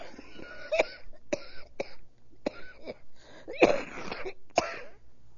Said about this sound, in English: It's an awful cough.